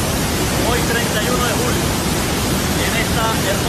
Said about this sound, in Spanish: En un derroche de astucia, uno de los más buscados por la justicia estadounidense envió un mensaje con audio confuso desde la clandestinidad, arropado por una fuerte caída de agua.